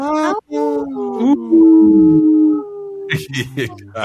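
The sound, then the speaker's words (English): A human voice imitates a wolf howl: a loud, sustained wavering tone lasting about a second, framed by short bursts of vocal sounds before and after. “She was unimpressed with the howls.”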